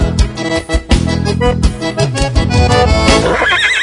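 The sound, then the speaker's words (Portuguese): A horse lets out a loud whinny that rises and trembles into a shaky, wavering neigh at the end, heard over a dense, busy background. “Relincho, mas que baita fusarqueira.”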